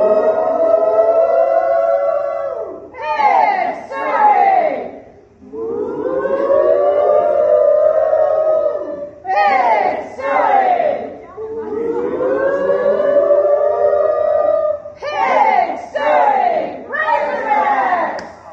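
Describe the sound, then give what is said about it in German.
A group of tourism professionals on a trip to Arkansas loudly chants the Razorbacks hog-calling cheer, the Arkansas college-sport battle cry, three times, each round a long, wavering, siren-like wail followed by a burst of short, sharp shouts. “Und wir haben das mal, auf meiner Arkansas-Reise hatte ich die Gelegenheit, da diesen Schlachtruf mal gemeinsam mit ein paar anderen Touristikern einzuüben.”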